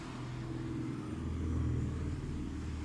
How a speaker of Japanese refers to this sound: こういう街乗りがね、私は苦手でね。そうそう、ほら、今ビッグスクーターすり抜けていったでしょ。そういうのがね、あんまり得意じゃないんですよね。